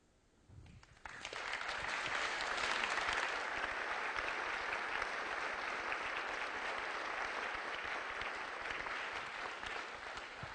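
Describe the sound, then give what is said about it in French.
An audience at the Musée des Confluences bursts into applause after a brief quiet moment, thanking Françoise Ramon for her literary introduction. The clapping swells quickly into a dense, steady wash that holds at full strength for about ten seconds. “Je crois qu'on peut remercier et applaudir encore une fois Françoise Ramon qui nous a offert cette introduction littéraire.”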